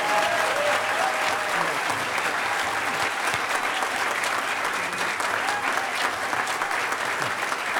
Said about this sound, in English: and I think we all owe a really special, huge round of thanks and applause to Emmanuel Goldstein, who made all of this possible, and 2600 Enterprise. Give it up, give it up. Huge, huge round of applause.